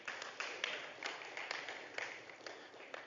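A crowd applauds a volunteer called up to the front, a dense, steady patter of many hands clapping that holds for a few seconds at a fairly soft level, with a few sharper claps standing out.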